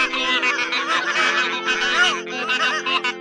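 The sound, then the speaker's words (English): A dense chorus of geese honking continuously, many overlapping calls at once, loud, with no pauses throughout. “And soon all the geese were praying, one by one, and in duets, and in trios, and all together in a great chorus.”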